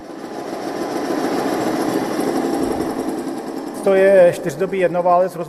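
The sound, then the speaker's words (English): The long-stroke 600cc single-cylinder four-stroke OHV engine, about 18 horsepower, of an old Czechia Bermeland motorcycle thumps steadily with a fast, rhythmic pulse; after a few seconds a man starts talking over the running engine. “While several versions were produced over the years, many Czechia Bermeland motorcycles were equipped with the long-stroke 600cc single-cylinder engine that gave the brand its characteristic thumping sound”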